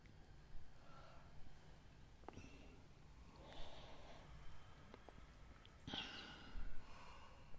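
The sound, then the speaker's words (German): Slow, deep breaths drawn in and let out, several soft airy swells in a steady unhurried rhythm, quiet, with no talking. “Ein paar Mal ganz tief ein- und ausatmen.”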